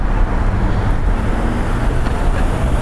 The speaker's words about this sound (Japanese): でっかい車だなあれ、クラシックカーだな。